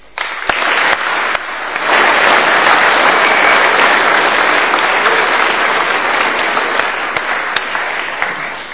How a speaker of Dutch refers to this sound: En ik denk dat het heel goed is om hun allemaal een applaus te geven.